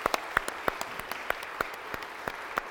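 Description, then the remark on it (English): An audience at a church service applauds the Messy Church core team, many hands clapping in a steady, dense patter with sharper individual claps standing out, with no talking over it. “So let's give them a big round of applause, please, and just say thank you so much.”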